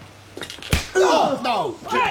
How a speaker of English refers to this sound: And with that, the young man took on both the black shirts. One he knocked out cold with a swift left-hander.